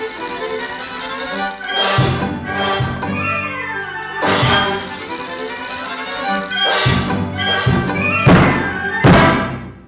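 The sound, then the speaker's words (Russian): A wind-up mechanical toy clatters and whirs, with a busy rattling texture broken by repeated sharp thumps and clunks, fairly loud throughout and no one talking. “Заводная механическая игрушка.”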